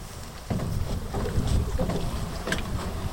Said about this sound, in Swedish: Botten i hans båt slår mot stenarna i strandkanten.